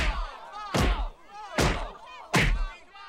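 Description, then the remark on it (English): Three heavy punches land on a body in a steady rhythm, each a loud, broad thwack with a quick decay, over a quieter, murky background between hits, as Bob slugs Happy in the gut and then jabs him in the face during a fight. “Bob slugs him in the gut, then repeatedly jabs him in the face.”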